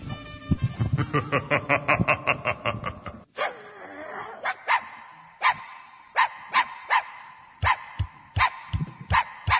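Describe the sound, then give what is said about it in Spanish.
A dog whines and cries in rapid, pulsing howl-like bursts for about three seconds, then breaks into a series of sharp yips and barks at an uneven rhythm. “Si tu perrito aúlla o llora, no es que quiere ir a la plaza ni está en celo.”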